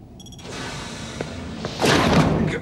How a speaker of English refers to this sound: A nervous-looking Prit guard places a covered platter just inside the cell door. Picard rushes the doors as they begin to close.